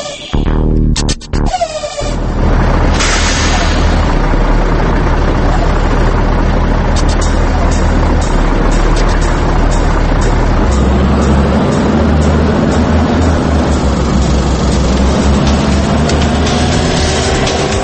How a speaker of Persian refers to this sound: و اما ماشین‌های سنگین و صنعتی.